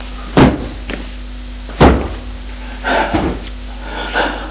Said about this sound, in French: Puis, il court vers la commode, ouvre les tiroirs. Mais il n'y a dedans que des vêtements. Il les jette à terre.